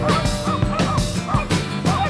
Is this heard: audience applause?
no